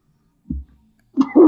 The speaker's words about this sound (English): Excuse me, sorry about that. I just had to sneeze